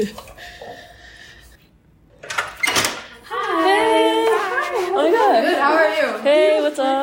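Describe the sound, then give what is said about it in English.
A door at LiveWell on West Campus clunks open with a short, sharp burst of noise as people walk in from freezing weather, and right after it a warm wash of overlapping voices and chatter spills in, much louder than before. “Okay, the door opened.”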